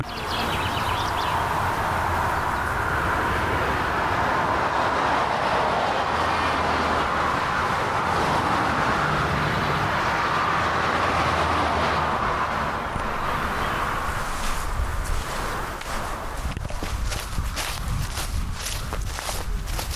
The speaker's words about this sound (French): tout le début de la balade, on est très proche de la route. On a donc une oreille dans le trafic et une dans la nature. Vous allez entendre, c'est assez surprenant, mais ça dure que sur le premier quart d'heure de promenade.